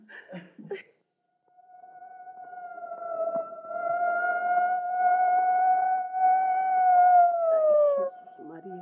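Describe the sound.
A brief bit of speech, then a long, loud ambulance siren wail holds a steady pitch for several seconds, rising slightly before dropping away at the end.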